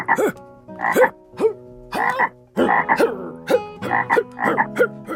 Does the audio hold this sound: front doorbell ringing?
no